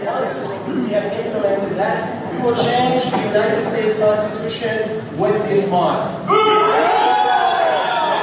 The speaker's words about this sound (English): So everyone's booing. So he starts out the speech there going, you know, we're going to change the Constitution, and everybody boos.